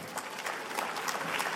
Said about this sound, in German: Nochmal einen tosenden Applaus bitte